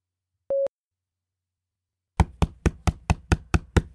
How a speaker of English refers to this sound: I've been knocking for almost 5 minutes.